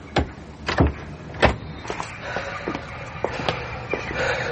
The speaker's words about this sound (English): Open the vestry door. Please.